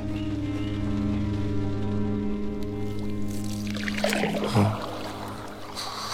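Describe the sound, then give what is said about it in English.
Water laps softly against a small canoe, with Steerpike asleep in it, as it bobs gently on inky water in a flooded room, over a low, steady humming drone, with a brief swell of splashing near the end. No one speaks. “Steerpike, asleep in a small canoe, bobbing gently on the water, waits for nightfall to make his escape.”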